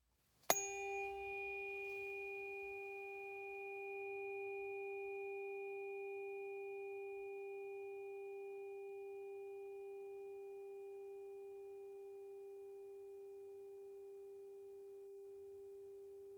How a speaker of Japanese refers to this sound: 今日はこの音叉ももちろん使うんですけど、ご主人様には他にもう一本音叉を選んでもらいますね。まずは1本目。